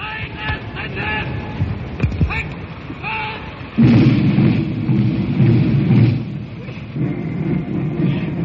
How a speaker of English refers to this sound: Today, of course, it is raining. Up go the umbrellas. I'm crouching under one.